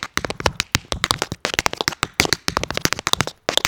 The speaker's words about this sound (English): It's all rhythm. Tap shoes are like our drum sets, you know what I'm saying? So we just have different instruments playing the same kind of music. And every step has intention.